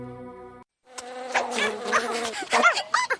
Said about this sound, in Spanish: Elmo quiere protegerse de los mosquitos. Existen mejores maneras para protegerse de los mosquitos que causan Zika.